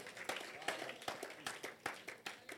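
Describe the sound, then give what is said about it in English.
An audience claps together for the Lord Jesus in a steady, rhythmic beat, roughly two to three sharp claps per second, over a continuous wash of crowd noise and voices. “Clap for the Lord Jesus.”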